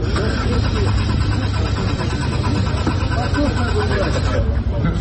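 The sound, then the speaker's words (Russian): The engine of a Lada Aura prototype car, presented at a forum, cranks repeatedly without catching, a steady mechanical churning, with people talking over it throughout. “Не заводится? Ну, это прототип, подождите.”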